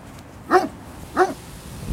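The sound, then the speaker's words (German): A dog gives two short, high-pitched yelping barks about half a second apart, each with a slight whiny tone, clear over a quiet background. “Ich spreche jetzt mal mit dem Hund. Mal sehen, was er zu sagen hat.”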